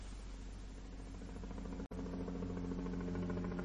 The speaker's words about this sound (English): Tony heard the sound of a helicopter. Then he saw it. It rose into the sky in front of them and flew out over the sea to the west.